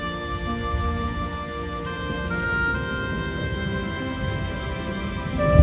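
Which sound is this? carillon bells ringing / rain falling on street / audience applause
rain falling on street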